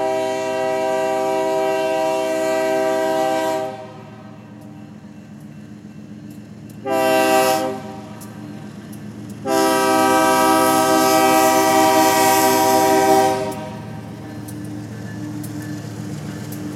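A loud train horn from a long train sounds three times on a misty, foggy night in St. Joey Town: a long blast, a brief toot, then another long blast, with a steady low rail rumble underneath throughout.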